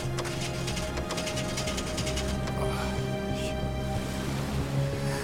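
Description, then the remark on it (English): A boat engine rumbles steadily after a few rapid clicks at the start as the key is turned, a low droning hum with a constant tonal whine, fairly loud throughout. “Weston turns the key.”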